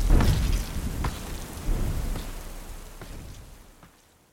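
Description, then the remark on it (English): A thunderstorm with steady rain hissing and a heavy low rumble of thunder near the start, rolling on before the whole storm gradually fades away. “Instead, he trailed the Goliath, the melody slowly waning into the background until it was completely consumed by the storm.”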